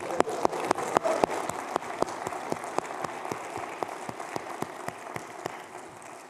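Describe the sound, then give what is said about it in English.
An audience breaks into applause for mothers: a dense wash of clapping with sharp individual claps standing out, holding steady for several seconds before easing slightly toward the end. “We got to give you a clap today.”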